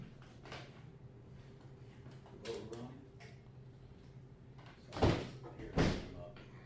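A door is unlocked with a key and opened: soft rattling clicks, then two firm wooden thuds about a second apart, over a steady low background hum.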